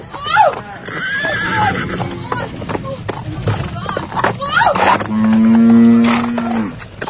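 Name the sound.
horse neighing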